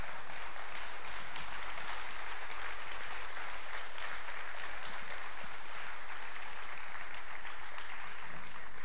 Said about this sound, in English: They don't clap like that when I preach. I don't know what's going on, but that shows they enjoyed it.